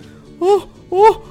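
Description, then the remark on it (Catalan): A voice imitating the mother bear in a told story mimics a bear's growl in two short, moaning bursts, the second slightly longer, moderately loud, with quiet pauses around them. “La mare Ossa va grunyir una mica menys fort.”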